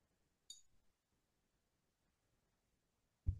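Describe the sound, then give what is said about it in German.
Someone drinking from a glass: a single bright glassy clink near the start, a quiet stretch, then a soft low thud as the glass is set down. No one speaks. “Mädels, ich weiß nicht, wie es euch geht, aber mein Mund ist trocken und wir müssen unbedingt mal wieder ein bisschen mehr trinken.”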